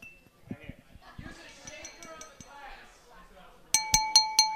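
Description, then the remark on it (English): A drinking glass is tapped four times in quick, even succession to call for a toast, each strike giving a bright, ringing clink that lingers, following a stretch of indistinct background voices and clatter. “Did you tap on the glass?”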